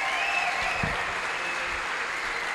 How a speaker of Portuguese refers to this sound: Parabéns, Criciúma Esporte Clube. Vamos aplaudir aí a galera.